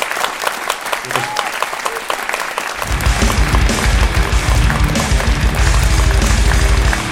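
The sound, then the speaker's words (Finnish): An audience applauds with dense, steady clapping throughout, swelling louder and fuller about a third of the way in and sustaining at that level to the end. “Annetaan aplodit. Tämä on ehdottomasti aplodin paikka.”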